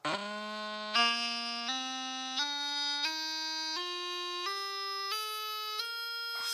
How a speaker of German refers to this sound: Aber man merkt, das klingt schon anders als eine normale Pfeife. Das klingt schon mehr wie eine Dudelsackpfeife. Das hat dieses vibrierende, doppelte, diese Mehrstimmigkeit. Weil da drin ist dann die Blechblätter.